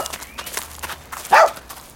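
dog barking

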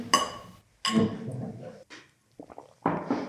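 clinking glasses

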